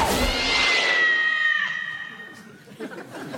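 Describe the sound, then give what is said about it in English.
A loud, drawn-out yowl from a kitten launched from a catapult, with a bright, wavering pitch that slowly fades and thins out, as if moving away, followed by a brief faint rustle. “Please tell me that wasn't a real cat. Of course not. Kitten.”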